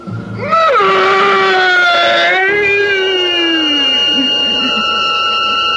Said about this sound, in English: The priest drove the sharpened oak stake through the body. And that fearsome shriek, which still sounds in my dreams, rent my ears.